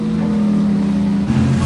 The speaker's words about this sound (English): watches the racing boat speed away. With a hull like a catamaran's, it leaves a wide, foamy wake.